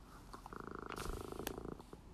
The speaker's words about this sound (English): I think you can hear that purring. Yeah. Yeah, rub up against the phone.